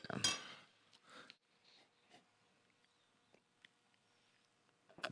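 glasses clinking

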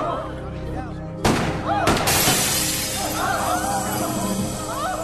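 glass shattering

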